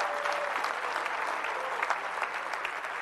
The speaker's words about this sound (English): Well, let's give God a big hand clap. Hallelujah.